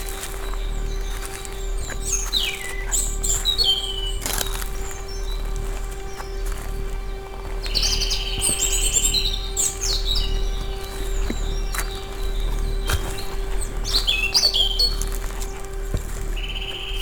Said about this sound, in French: Le chant des oiseaux semble m'inviter marcher avec la plus grande attention.